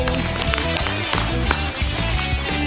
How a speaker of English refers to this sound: Clap, clap, clap, clap, clap. Yay.